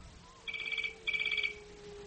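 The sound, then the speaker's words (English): A telephone in an office rings twice in quick succession, each burst a fast, trilling electronic warble, heard alone and at moderate volume, with a faint hum underneath. “The phone ringing in the office.”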